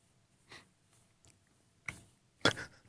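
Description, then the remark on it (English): Crunching bites of fresh, bite-size, salty and sweet food, several short crisp bursts spaced irregularly, the last one loudest, with quiet mouth noises and breathing between them and no talking. “Oh, it's a pretty good crunch. It's fresh.”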